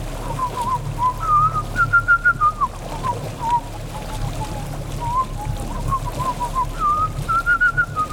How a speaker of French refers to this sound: je siffle, certes très mal, mais c'est un air de Mickey